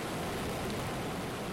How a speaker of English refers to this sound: Continue breathing along with the ocean waves.